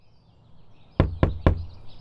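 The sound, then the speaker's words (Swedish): Three firm, evenly spaced knocks on the door of a small, faded red cottage, sharp and loud, with faint bird chirps in the quiet background. “Jag knackade på dörren till Görans lilla stuga.”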